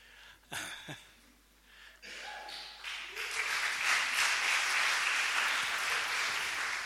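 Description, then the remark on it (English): A couple of brief coughs or throat-clearing sounds come first, then audience applause swells up and continues as a dense, steady clapping from a crowd until the end. “Applaudiert lieber erst hinterher.”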